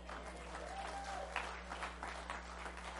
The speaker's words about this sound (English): If you would receive these folks into membership of Nixa Church of the Nazarene, would you let it be known with a rowdy amen and hand clap and all kinds of things like that?